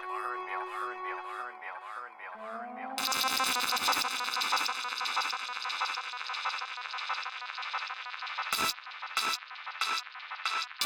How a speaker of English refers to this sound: Turn the alarm off.